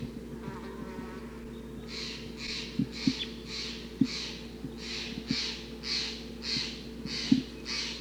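crossbill flock calling

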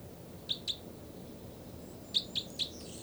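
two birds calling

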